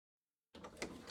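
After a moment of silence, the door of a closet used as a hiding place opens with a broad, scraping rush of sound and a sharper creak or clack partway through, moderately loud.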